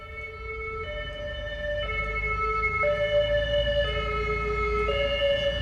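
ambulance siren

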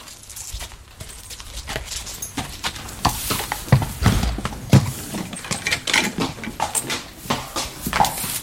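horse hooves clip-clopping

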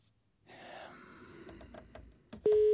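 telephone ringing tone

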